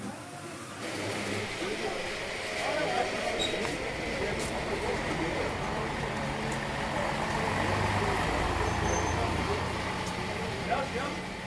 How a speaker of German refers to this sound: Feierabend. Das Tor öffnet sich, die Busse warten. Die Fahrer flachsen. Arbeiterinnen und Arbeiter kommen aus den Hallen, vereinigen sich zu einem Strom.